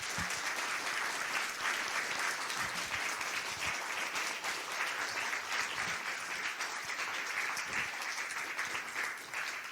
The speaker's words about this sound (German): Ja, das ist jetzt so halb im Applaus untergegangen.